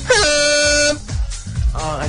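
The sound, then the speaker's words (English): A person voices a loud, blaring quiz buzzer noise, one sustained nasal honk lasting under a second like a foghorn, followed by people talking and laughing. “God, that's like a foghorn.”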